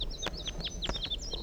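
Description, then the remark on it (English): Crossbill calls, recorded on the way down a hill: a quick series of sharp, high chip notes, roughly eight or nine in a second and a half, over a steady low rumble, with a few soft clicks between them. “So recording, I'm on my way down the hill and I've met up with crossbills, perhaps the same birds as before.”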